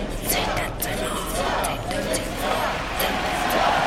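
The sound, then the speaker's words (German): A large crowd of thousands of spectators in a huge hall roars and shouts continuously, a dense wall of cheering and screaming voices that stays loud and steady throughout, with occasional sharper yells cutting through. “In eine gewaltige Halle mit Tausenden von Zuschauern, die immer noch alle haben geschrien.”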